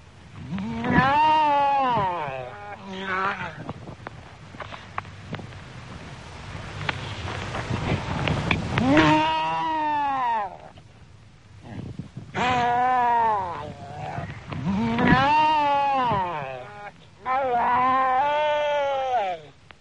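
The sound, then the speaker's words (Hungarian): A noisy seal colony: loud, harmonic barking and bleating calls repeat in overlapping bursts from several seals, with a steady rush of wind or surf filling the gaps. “A fókák többnyire halakkal élő ragadozó vízi emlősök, jellegzetes ugatóhangjukkal nagy zsivajt csapnak a fókatelepeken.”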